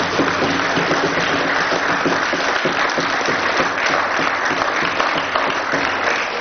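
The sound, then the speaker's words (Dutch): Sustained audience applause at a town council meeting, a dense, steady wash of many hands clapping at an even loudness throughout, with no voices standing out above it. “Applaus voor Guida alsjeblieft.”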